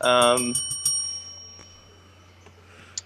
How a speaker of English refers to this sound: Ring the bell again.